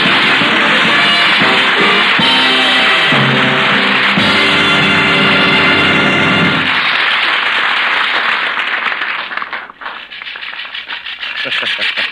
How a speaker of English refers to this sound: And friends, do you hear what I hear? A lawnmower and Chester A. Riley.